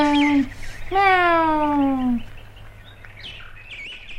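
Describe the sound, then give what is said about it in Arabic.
Birds chirp in short, high tweets, faint at first and clearer near the end, behind a long, drawn-out vocal sound from a voice. “فإذا ما رأت الطيور مياو، ما أجمل هذه الطيور، أنا أريد أن أكون طائرا.”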